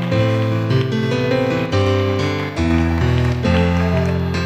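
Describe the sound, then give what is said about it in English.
An audience claps steadily in a dense, continuous wash of applause given as a hand clap of praise to God, layered over loud sustained keyboard or organ chords that shift every second or so. “If we could give God a hand clap of praise, he is worthy of that.”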